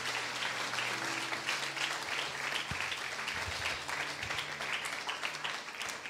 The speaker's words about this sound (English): Can everybody give the Lord a hand clap? Mindenki adjon egy nagy tapsot Istennek.